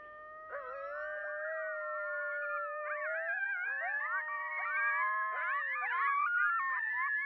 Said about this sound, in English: As the wolves go quiet, coyotes begin their chorus. Here I am, listening to the dogs of Yellowstone start their day.